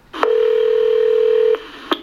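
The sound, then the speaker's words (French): A steady electronic telephone tone holds for over a second, then cuts off, followed by a couple of short beeps and clicks as a call is placed by a Nobel Prize journalist to Kathleen Carico on 2 October. Clear, with no voices. “Alors, je vous propose d'écouter cette conversation téléphonique en anglais, mais c'est très limpide, avec le journaliste du Nobel qui l'appelle au téléphone le 2 octobre.”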